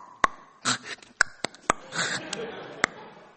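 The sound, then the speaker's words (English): A voice imitates the clicking hiss of Snortington, a large pet guinea pig that hisses when approached near his pig bed: sharp, irregular clicks spaced apart, mixed with breathy, hissing bursts, moderately loud and with no other talk. “And he has a weird clicking hiss.”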